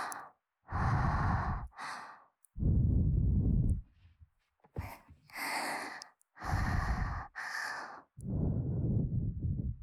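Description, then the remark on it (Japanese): A sequence of deliberate breaths into a Neumann KU100 binaural microphone, alternating airy, hissing exhales and softer, lower breathy sighs, about eight in a steady rhythm with short pauses, fairly loud and with no talking. “こういう息とか吐息、呼吸とか、 なんかこういうこうやって今わざと音を鳴らしながらこうわさわさわさしてるんですけど、 移動感とかっていうのがすごいわかりやすいようになっている”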